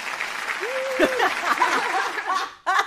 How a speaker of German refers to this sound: Warte mal, wir haben ja auf unserem Soundboard so ein Applaus-Ding.